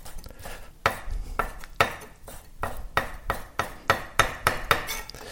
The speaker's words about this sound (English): So now you're just dicing the raw salmon. Yes. The small dice.